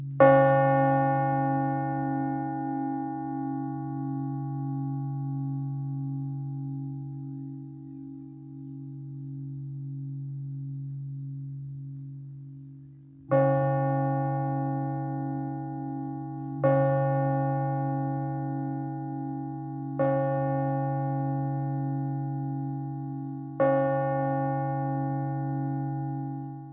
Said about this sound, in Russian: А вот еще один вариант благовестного колокола. Послушаем его.